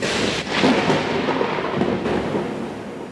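A sustained, loud rumble of thunder rolls over steady rain, a broad continuous roar with swelling surges and no voices.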